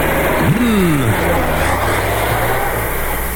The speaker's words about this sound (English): how fast is that car going?